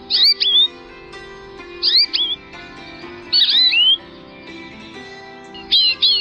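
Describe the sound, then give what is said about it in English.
An American goldfinch sings in four short, bright bursts of twittering notes, evenly spaced a second or so apart, over a soft sustained musical backdrop. “A bird known over most of the U.S. and parts of Canada and Mexico, and serving as the official bird of the widely separated states of New Jersey, Iowa, and Washington.”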